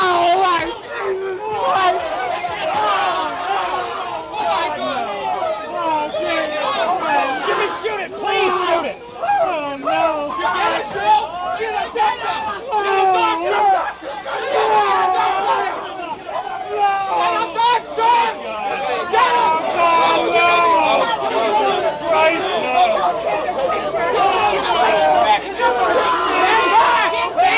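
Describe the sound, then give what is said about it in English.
A dense crowd screaming and shouting all at once around the wounded Senator Kennedy in a Los Angeles hotel kitchen, many overlapping loud voices keeping up an unbroken frantic din for the whole stretch. “Crowd around him screaming, unbelieving that such a thing could happen.”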